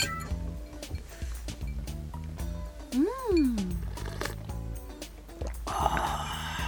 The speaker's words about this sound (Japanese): 実はですね、カランコロンと氷の音が聞こえているでしょうか。